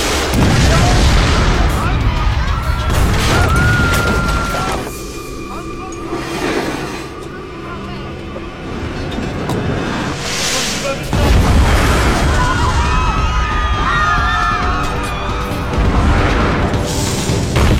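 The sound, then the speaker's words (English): Heavy cannon fire booms again and again, loud, with crashing impacts and a constant rumbling din, while indistinct voices cry out amid the bombardment of Constantinople by cannons firing stone balls. “Those people in Constantinople, they had never experienced anything like a cannon bombardment.”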